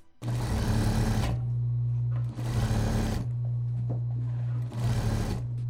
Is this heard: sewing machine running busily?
yes